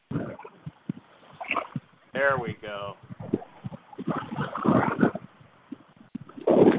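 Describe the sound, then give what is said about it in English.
Ocean waves rush in and splash in broad, hissing surges that swell and fade in a few bursts, recorded with a phone held down to the water, with a person speaking briefly over the water. “Can you guys hear the waves, you know, rushing in here a little bit?”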